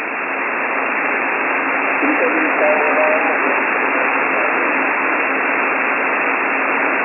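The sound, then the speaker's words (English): Someone puts a carrier on a radio channel, interfering with it: steady, band-limited static hiss with a constant low tone running through it, and faint warbling tones surfacing briefly midway. No voices. “The bastard putting carrier here.”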